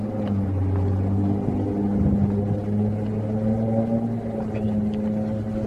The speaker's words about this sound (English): Cars are going fast in all different directions.